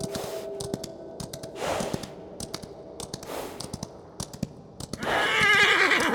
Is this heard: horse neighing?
yes